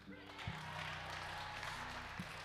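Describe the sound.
An audience breaks into a steady round of applause, a dense wash of many hands clapping at once that stays even throughout, fairly soft and a bit distant, with faint voices mixed underneath.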